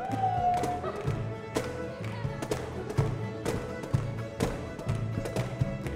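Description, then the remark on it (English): Ten flatfoot dancers in a basement rehearsal room pound and stomp in a loud, irregular barrage of heavy thudding steps, with sharp percussive taps over low booming thumps, while a student string band of fiddle, mandolin, guitar, washboard and banjo plays steadily underneath. “How many basement rehearsal rooms have you been in that literally shake with the pounding steps of 10 flatfoot dancers?”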